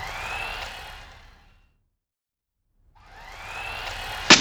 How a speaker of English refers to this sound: Great! It's a remote control car. Let's put the batteries in now. Okay. Does it work? Let's see.